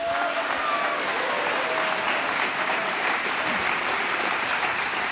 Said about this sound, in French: Applaudissements.